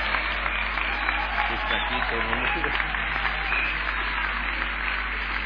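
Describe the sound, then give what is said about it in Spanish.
A church audience applauds steadily, a dense, even wash of many hands clapping at a constant level for several seconds, with a voice faintly mixed in beneath the clapping. “Alguien tiene que aplaudirle hoy.”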